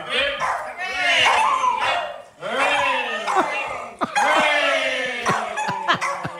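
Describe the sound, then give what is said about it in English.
Dogs howl along to a sung Happy Birthday tune in long, wavering, rising and falling cries, loud, broken by a few short yips and whimpers between phrases. “I forgot about the dog singing happy birthday.”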